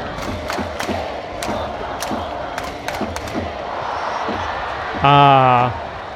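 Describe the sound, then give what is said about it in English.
A baseball stadium crowd keeps up a steady roar, punctuated by sharp rhythmic claps or drum hits, before a brief, loud horn-like blast rings out near the end. “One of their best hitters just went down, so the crowd will now become quiet.”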